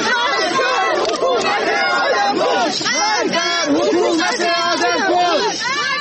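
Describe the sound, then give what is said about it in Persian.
At the grave of the poet Baktash Abtin in Imamzadeh Abdullah, Shahr-e Rey, a large crowd shouts slogans that the poet did not die but was killed, many raised voices chanting loudly and continuously with rising and falling pitch, overlapping in a dense, unbroken roar throughout. “و این فریادها که می گویند شاعر در نگذشته، جان باخته.”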